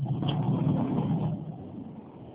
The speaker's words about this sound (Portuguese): Estou no trânsito.